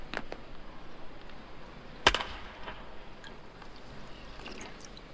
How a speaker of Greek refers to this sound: Ακόμα και το νερό από τη βρύση που τόσο πολύ τον ενοχλεί τον προπονητή, του φαίνεται μια χαρά ξαφνικά. Ακούσατε λίγο ένα νερό να κελαρίζει.